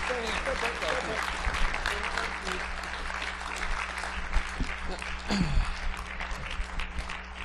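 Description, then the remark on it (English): An audience claps steadily in a dense, continuous wash of applause, with a low hum and brief murmurs of voices underneath. “Well, let's give them a round of applause, you guys.”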